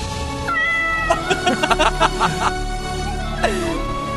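A cat meows: a short mew, then a run of quick chirpy bursts, and finally a longer drawn-out meow that falls in pitch, over a steady low background hum.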